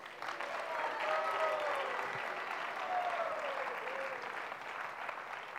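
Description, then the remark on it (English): Sustained applause from an audience at a gathering, given for a band, a steady wash of many hands clapping at fairly even loudness for several seconds, with a few faint voices mixed in. “An applause for them.”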